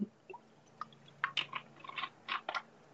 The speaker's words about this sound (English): I am just about to take a sip of water.